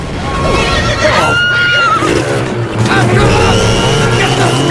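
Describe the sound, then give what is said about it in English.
A horse whinnies loudly, its shrill, wavering neighs rising and falling over a steady low rumble of engines and commotion as it moves off while its rider has one foot in the stirrup. “horse moves off while he has one foot in the stirrup.”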